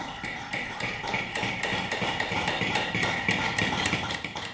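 Rapid, overlapping hammer blows drive a punch into leather laid on wooden boards as 11- and 12-year-old pupils of a 5th and 6th grade class from the Primarschule Schlatt near Winterthur punch holes in leather dice pouches like Roman legionaries had; several hammers tap at once in an uneven, continuous clatter of sharp knocks.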